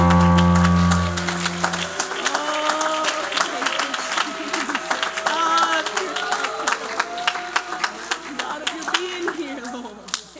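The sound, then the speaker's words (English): An audience claps hands steadily in praise to God, dense sharp claps for about ten seconds, with a sustained tone fading out early and scattered voices calling out underneath. “Give him a hand clap of praise.”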